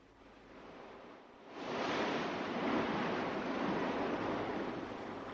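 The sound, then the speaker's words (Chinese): Ocean surf washes in, starting as a softer hiss and then swelling into a full, steady roar of breaking waves that carries on without pause. No voices are heard. “老头跑向大海，蔚蓝的海水变得阴暗起来”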